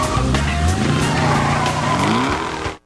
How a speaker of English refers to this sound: Porter backs up until he's out of the alley.